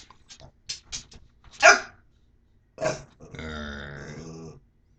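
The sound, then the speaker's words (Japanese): A dog named Arch lets out a few short, gruff barks, then a sustained, rumbling growl lasting about a second with a rolling, trilled quality like a rolled R. No one speaks. “なんかマサさんのコメントしてて犬が、発音しだしたので、参考にしてください。”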